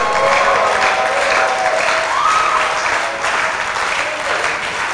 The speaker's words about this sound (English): If I'm having any witnesses here, let me hear a tumult, a shout, and a rejoicing clap offering.